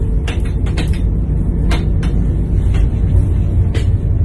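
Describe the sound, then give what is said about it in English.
Steady, loud low rumble of a moving train heading south and approaching Leicester, heard from inside the carriage, broken by irregular sharp clacks and rattles as the wheels pass over the track. No one speaks. “I'm on a train just approaching Leicester, heading south.”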